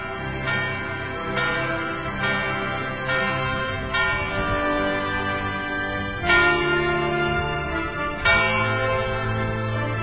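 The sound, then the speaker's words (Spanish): A church bell marking the start of a new hour rings out in a series of resonant strikes, each tone lingering and overlapping the next. It is fairly loud, with a few longer gaps between the later peals and no voices. “La campana nos marca el comienzo de una nueva hora.”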